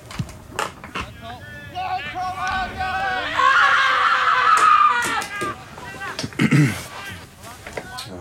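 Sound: human scream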